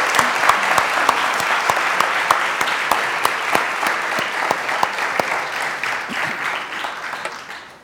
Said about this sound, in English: Can we give them all a round of applause? High five.